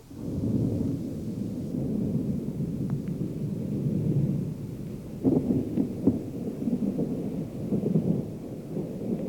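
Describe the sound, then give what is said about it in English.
A low, continuous rumble of thunder growls from far back behind the cliffs as big, heavy thunderheads race overhead before a cloudburst. It is deep and steady throughout, swelling with a few sharper bursts partway through. No voices are heard. “Pretty soon, here came a low growl from away back behind the cliffs.”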